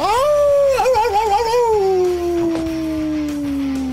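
A dog lets out one long, loud howl, rising quickly, wavering in the middle, then sliding slowly downward in a drawn-out, eerie wail.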